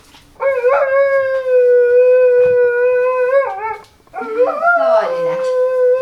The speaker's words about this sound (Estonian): ma pole ühtegi koera sellist kuulnud sellist laulu, nagu tema mulle siin laulab